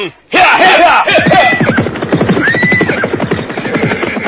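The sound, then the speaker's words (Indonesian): Horses whinny loudly, two rising neighs ringing out over a rapid, steady drumming of hoofbeats as two riders whip and spur them off at speed through a dense field of tall grass. “Keduanya bagaikan kesetanan menggebrak kuda itu.”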